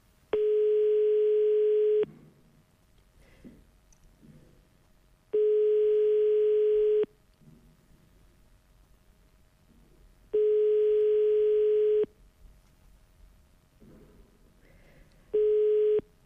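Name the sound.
telephone line ringing tone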